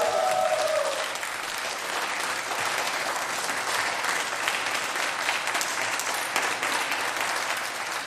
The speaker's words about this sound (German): Ich wollte jetzt einfach nochmal diesen tollen Applaus hier hören, weil das hat richtig Spaß gemacht. Vielen Dank, dass ihr heute unsere Gäste wart.